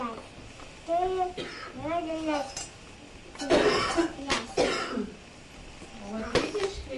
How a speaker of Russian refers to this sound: Бабушкин кашель запиши на диктофон.